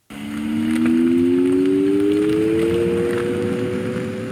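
A possible future electric vehicle pedestrian warning sound, for when an electric vehicle passes a pedestrian crossing: a steady synthetic hum of two tones that slowly rise in pitch over a few seconds, above a rushing noise, with no voices.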